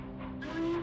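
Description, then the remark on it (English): A brief, steady whistle from an old steam locomotive as it inches towards the station in freshly fallen snow, sounding over a low rumbling, hissing train background, swelling slightly louder toward the end before easing off. “An old locomotive is whistling as it comes inching towards the station.”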